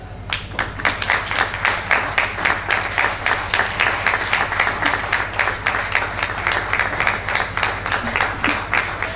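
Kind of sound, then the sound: crowd, audience applause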